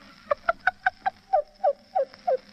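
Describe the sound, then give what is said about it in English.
A voice imitates a cuckoo call, about nine clear two-note hoots: five quick, evenly spaced calls, then four slower ones sliding downward. Fairly loud, with no talking. “Well, I can do a different kind of a cuckoo, too.”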